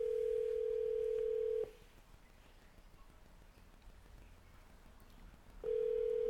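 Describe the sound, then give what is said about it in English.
A steady telephone line tone hums loudly for about a second and a half, drops into a quiet pause of several seconds, then starts again as a call is placed to reach a caller. No one speaks. “Try to get a caller on the horn.”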